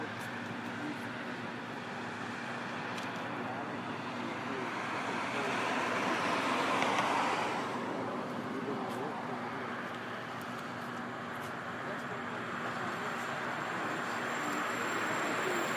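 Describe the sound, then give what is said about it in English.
Steady street traffic outside a police precinct hums and hisses at a moderate level, swelling briefly midway as a vehicle seems to pass by before settling back to a constant roadway wash. “We're standing in front of a police precinct.”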